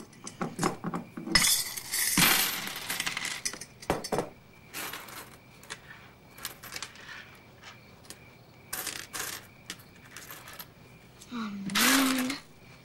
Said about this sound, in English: He gets up, empties a jar of coins, and starts to count them.